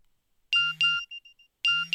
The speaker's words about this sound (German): Schau, eine SMS von Daniel.